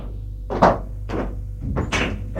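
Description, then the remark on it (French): An office door is shut, with several dull thumps and rattles spaced over a couple of seconds against a low steady hum. “Benoît ferme la porte.”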